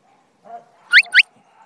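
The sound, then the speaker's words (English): Two quick, loud rising whistle blasts in close succession, like a dog training whistle signalling a left turn, with a faint low murmur just before them. “The right whistle. Left whistle.”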